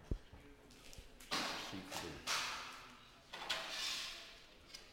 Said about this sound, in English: When I do this, by rights, if I'm right, when I shut these two doors, the flames in them should jump back a little.